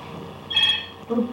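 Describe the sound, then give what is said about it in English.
A short burst of a high electronic telephone ring, heard once, followed by a brief lower tone, with a quiet room hum in the background and no talking. “Better get the phone before it wakes the animals, huh?”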